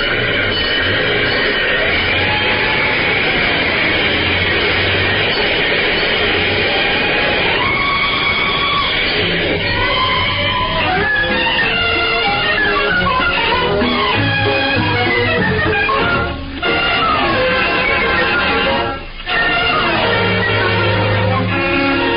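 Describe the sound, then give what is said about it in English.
A fire engine races along for the radio show Let's Pretend, its siren rising and falling over a loud, busy roar of motor and clatter that carries on without a break, dense throughout. “This fire engine for Let's Pretend, Puss in Boots, and Points North. Step on it.”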